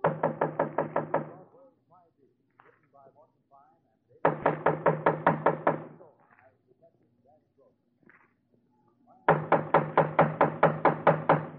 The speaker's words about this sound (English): Just knock on the door, huh